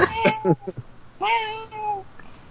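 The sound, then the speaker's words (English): A person mimics a cat: a few short, choppy mews followed by one long, drawn-out meow, fairly loud, with no other sounds around it. “Someone noises, pretending George. Like they're cat.”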